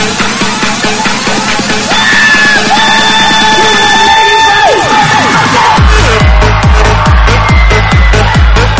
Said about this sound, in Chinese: Right， 准备好你的尖叫声。